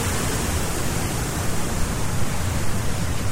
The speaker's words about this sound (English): Oh, it's getting louder here. There's waterfalls here. Oh, that's beautiful.